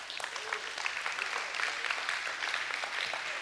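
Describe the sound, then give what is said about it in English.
A crowd of people clapping together during a sermon, answering the preacher's call to clap about God's grace: a dense, steady patter of many hands that holds an even loudness for a few seconds with no voices over it. “You ought to clap about that too.”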